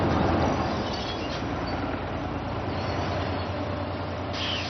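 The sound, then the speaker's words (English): A number 4 bus rumbles as it pulls up at a stop, a steady, loud low engine drone with road noise that holds for several seconds, no voices over it. “My bus is here.”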